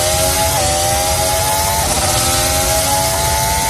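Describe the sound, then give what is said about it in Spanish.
A racing car engine, in a simulation of the planned Spanish Grand Prix street circuit at IFEMA in Madrid, screams at high revs in one continuous, loud, raspy buzz, its whining pitch holding steady with a brief wobble midway. No voices are heard. “¿Es una sierra mecánica? No. Eso es un coche.”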